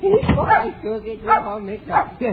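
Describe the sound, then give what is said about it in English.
A small dog barks, three or four sharp, high-pitched yaps spaced irregularly over a couple of seconds. “Stop barking now.”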